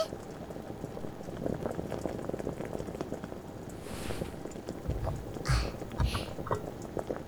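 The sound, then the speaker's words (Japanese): A pot of water on the stove at a steady rolling boil, dense bubbling and popping, with a few louder splashy bursts near the end and no voices. “鍋の方は、いい感じに沸騰し始めたわね。”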